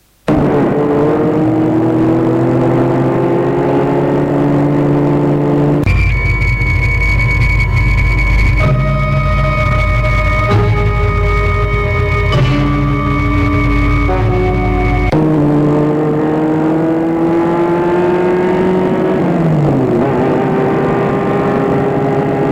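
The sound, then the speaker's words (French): A loud car engine hums steadily as the vehicle drives along the coast in the morning, its pitch rising and shifting with gear changes, then dropping as it slows toward a stop near the end. No talking. “Matin, ils longent la côte. Elle arrête la voiture.”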